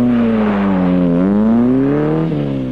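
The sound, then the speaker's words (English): A car engine hums steadily, its pitch slowly rising and dipping as it pulls away, with no voices over it. “I'm getting in your car, sir. You can give me a lift round there.”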